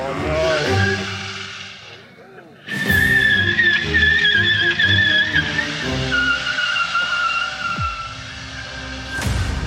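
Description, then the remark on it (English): Chaotic road traffic on the single road, in atrocious condition, to Weda Bay, where an oil spill causes chaos: cars rumbling, engines droning and a long high squeal of tires or brakes, loud and continuous, with a sharp burst of noise partway through. “There's only a single road in atrocious conditions, where a simple oil spill creates traffic chaos.”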